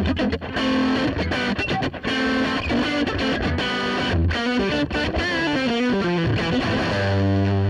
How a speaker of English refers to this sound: So that's the dry Fender Bassman tone.